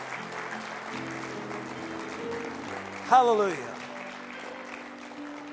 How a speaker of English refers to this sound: I might add, he is the faithful one. Can we clap to the Lord for that this morning? Hallelujah.